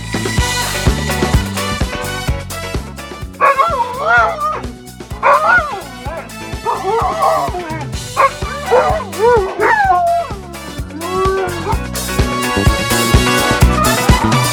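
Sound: dog barking and whimpering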